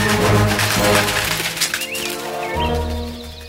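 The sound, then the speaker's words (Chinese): A big sparrow flies in: a quick burst of fluttering wings with a few short bird chirps, heard over a steady musical background, moderately loud before the flapping fades out. “但是小 Q 还来不及开心时，一只大麻雀飞了过来。”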